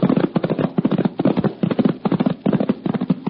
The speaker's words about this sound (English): their hooves pounded on the sun-baked road